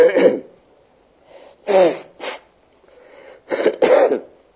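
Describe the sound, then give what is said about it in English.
Several sharp, explosive sneezes from a person with a cold come in quick bursts spread over a few seconds, separated by short pauses and soft breathy intakes, with no talking. “I might need to blow my nose from time to time.”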